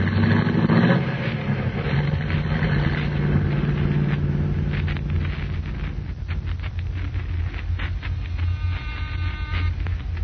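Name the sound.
car driving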